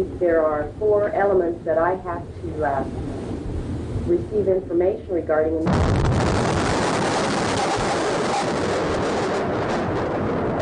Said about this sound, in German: Die Explosion zerreißt die morgendliche Ruhe am Alfred Murrah Building. Noch in einer Entfernung von 50 Kilometern ist die Erschütterung zu spüren.